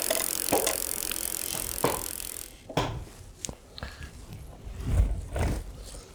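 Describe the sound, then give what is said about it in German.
Sharp mechanical clicks and clacks of cycling shoes snapping into clipless bicycle pedals, several separate snaps spread over a few seconds, with a hissing rush of noise in the first half and no talking. “Aber jetzt muss man die Klickpedale.”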